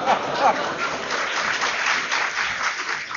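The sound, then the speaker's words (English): A live audience bursts into steady, sustained applause mixed with laughter, a dense wash of clapping and crowd noise that stays fairly loud and even throughout. “If you laugh and applaud, it means you're terribly old and we have to go terribly slowly for that.”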